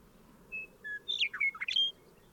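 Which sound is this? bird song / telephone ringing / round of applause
bird song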